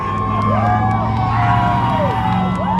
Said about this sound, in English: The event started with somber reminders of police violence against African Americans, then took on a joyous mood as the crowd lined the sidewalks, cheering and waving signs as passing cars honked in support.